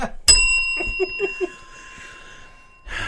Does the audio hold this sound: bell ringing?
yes